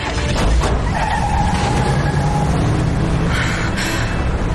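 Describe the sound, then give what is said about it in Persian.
A car roars off with its tires skidding and squealing, a loud, steady rush of engine noise and a high screech running through the first few seconds, no voices. “یالا سوار ماشین شو.”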